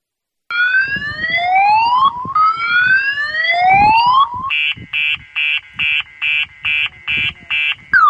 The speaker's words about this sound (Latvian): Šāds signāls varētu būt pazīstams ikvienam autovadītājam, kas vēlējies šķērsot dzelzceļa pārbrauktuvi, tomēr tā bijusi slēgta sakarā ar kravu un pasažieru pārvadājumiem pa dzelzceļu un tuvojošos lokomotīvi.